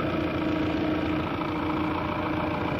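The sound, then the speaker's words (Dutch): A car engine, just started with a turn of the key, idles steadily, a continuous low mechanical rumble with a faint hum and even vibration throughout, no voices present. “Motortje is fantastisch. Draai ik alleen de sleutel om. Start te lopen.”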